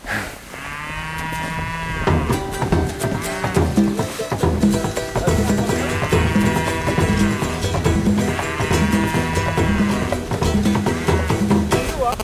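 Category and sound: animal, cows mooing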